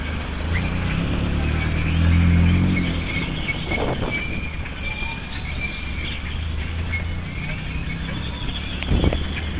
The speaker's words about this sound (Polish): Nie przeszkadza, że są samochody, tak samo było w centrum Mexico City przy jednej mega ruchliwej ulicy.